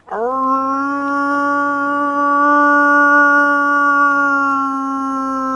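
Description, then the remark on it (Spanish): A single long wolf-like howl made by a human voice to call wolves, rising quickly at the start and then holding a steady, loud, sustained pitch for about five seconds. “Pegaba un aullido.”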